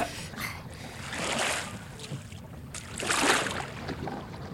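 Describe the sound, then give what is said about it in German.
Paddles dip and pull through water in a slow rhythm as three people paddle a boat to a landing spot between two rocks on an island, each stroke a soft swishing splash over a low, lapping background, with no voices. “Die drei Detektive paddelten ein Stück weiter, bis sie eine geeignete Stelle zwischen zwei Felsen fanden und verließen das Boot.”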